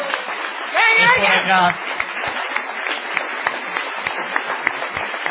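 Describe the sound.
Steady audience applause, a dense crackle of many hands clapping that continues for the whole stretch, with a brief voice calling out over it near the start.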